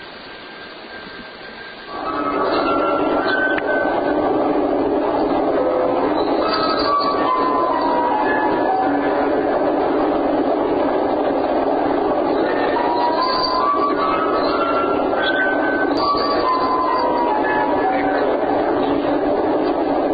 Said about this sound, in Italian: L'idea alla base di questo lavoro è che non abbiamo più bisogno di autori, in questo caso di musicisti, perché come avete visto anche dei ventilatori da tavolo sono in grado di mettere su un gruppo e suonare dal vivo.